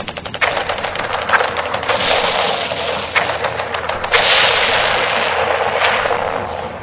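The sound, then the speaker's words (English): Sustained rapid bursts of machine gun fire from P-47 Thunderbolt fighter planes firing on 262 jets, a loud rattling stream of shots with sharper cracks punctuating it, running continuously over a low engine drone. “That's it, we've got them! Open up and let them have it.”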